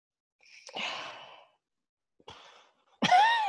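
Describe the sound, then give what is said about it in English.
A person yawns, with long breathy exhalations followed by a drawn-out voiced yawn that rises and falls. Fairly loud, with no talking. “I'm still yawning like crazy.”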